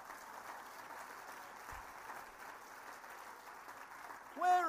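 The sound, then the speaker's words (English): A crowd at an awards event applauds the nominees for best female presenter steadily for several seconds, a dense, even patter of clapping, and a short high voiced whoop or cheer rises over it right at the end. “Round of applause for our nominees, please.”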